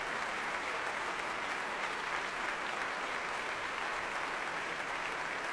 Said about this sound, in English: Back to the stage he comes again to take another bow. Very enthusiastic applause from the players of the BBC Symphony Orchestra.